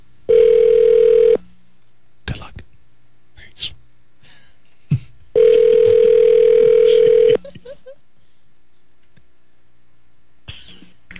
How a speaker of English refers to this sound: Peter Jennings. Let's see if we can get him on the phone with us. Is it ringing? Here we go.